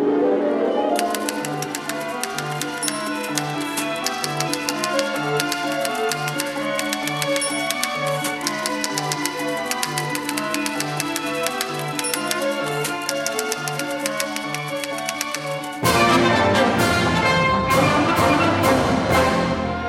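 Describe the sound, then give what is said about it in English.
Orchestral music from Erik Satie's Parade (1917), in a 1954 recording conducted by Igor Markevich, plays throughout. Near the end a run of sharp, irregular typewriter clacks, part of the orchestra, cuts in loudly over the ensemble. “Pieces like Erik Satie's witty Parade from 1917, with an orchestra that includes a train whistle and a typewriter.”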